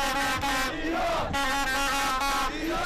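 A large crowd of Iranian football supporters chants loudly in unison outside the ground ahead of Iran's World Cup game with England, many voices merging into a sustained, rhythmic roar with brief swells and dips, and no single speaker standing out.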